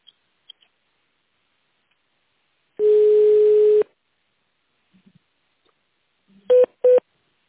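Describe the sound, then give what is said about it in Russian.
Touch-tone phone keys dial an extension: one long steady beep lasting about a second, a pause with faint clicks, then two short, quick beeps in succession. No one speaks. “Для соединения с нужным специалистом наберите внутренний добавочный номер.”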